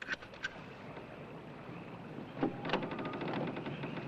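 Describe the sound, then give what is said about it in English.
On a moving houseboat, a doorknob rattles and a latch clicks, followed by a door creaking open, all set against a steady low rumble of water and a boat engine. “On the boat, a doorknob turns.”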